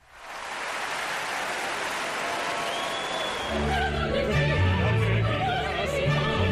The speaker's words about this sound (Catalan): Mira, la gent s'ha posat d'empeu per aplaudir-te avui. Classe magistral. M'ha agradat molt.